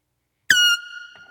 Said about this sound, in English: A horn? What did you hear? A blowhorn, yes. It was an air horn. So that gets your attention. Now everybody's awake. Okay? Everybody's awake because we heard that noise. It wasn't very hard to hear that noise, right?